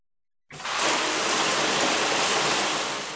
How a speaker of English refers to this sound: Take a shower.